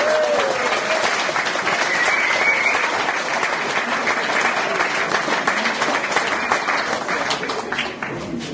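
applause

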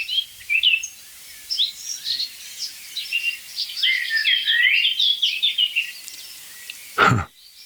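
blackcap and blackbird singing

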